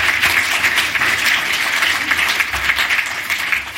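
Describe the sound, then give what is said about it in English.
Steady, dense applause from a crowd for Chris Gladwin, CEO of Ocient, as he makes his way up to the stage, loud and sustained for the whole stretch with a bright, crackling texture of many hands clapping at once and no voices on top. “A round of applause for Chris as he makes his way up.”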